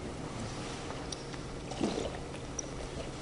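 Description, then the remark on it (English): Water pours steadily into a glass or cup, a continuous gurgling splash with a slight surge partway through, against a low background rumble, with no one speaking. “How about my water?”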